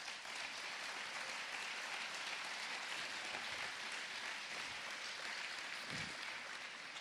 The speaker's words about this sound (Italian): Ecco, io sono arrivato ieri, ho visto le facce di chi ha organizzato questo festival, e che sono delle facce che raccontano tutta la fatica ma anche la passione, e quindi dovete veramente ringraziarli e applaudire loro innanzitutto.